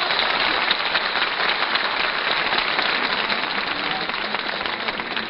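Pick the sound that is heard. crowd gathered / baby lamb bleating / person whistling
crowd gathered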